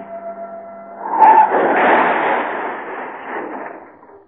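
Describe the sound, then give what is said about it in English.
A car engine hums steadily, then revs hard as the car spins around, into a long, loud rush of tire skidding and screeching that gradually fades out over a few seconds. No voices. “Spin around. Rev and twist.”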